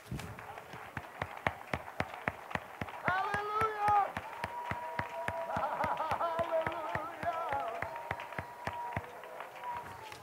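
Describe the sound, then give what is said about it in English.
An audience claps hands to Jesus in a steady, fast rhythm throughout, the beats loud and in unison, while voices shout or sing over the clapping in the middle. “Clap your hands and make some noise to Jesus.”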